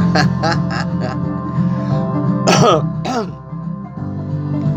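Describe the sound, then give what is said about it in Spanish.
A raspy series of coughs: a quick cluster of short hacks at first, then a pause and two heavier, throaty coughs, over a low steady hum. “No, la tos es por el cambio climático.”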